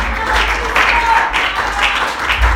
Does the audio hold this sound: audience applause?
yes